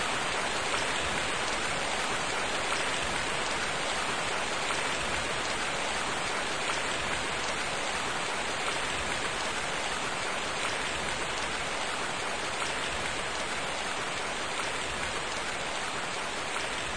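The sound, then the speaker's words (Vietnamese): Heavy rain pours down steadily outside in strong wind, a dense, continuous hiss of drops hitting surfaces that stays loud and even throughout, with no voices or other sounds. “bên ngoài mưa to gió lớn, anh muốn đi đâu vậy?”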